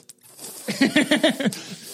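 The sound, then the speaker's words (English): A voice makes a rapid, pulsing hiss, about five quick breathy bursts in a row, imitating a snake, fairly loud, with breathy noise before and after. “a bunch of snake-headed people with long tongues going, you know. It's just like, it's crazy, man. It's just constantly hissing.”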